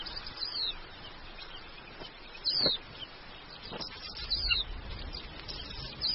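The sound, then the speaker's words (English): Carmine bee-eaters on the African savannah, among seasonal grasses, give short, high chirping calls a few times, spaced a second or two apart, over a steady outdoor hiss with occasional soft thumps. “Carmine beaters are superb aerial hunters, experts at catching insects in mid-air.”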